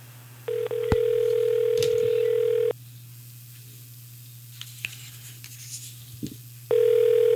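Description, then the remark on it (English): A telephone ringback tone purrs for about two seconds, falls silent for roughly four, then starts again, steady and clear over a low electrical hum, with no voices. “Ringing. Yeah, we're about there.”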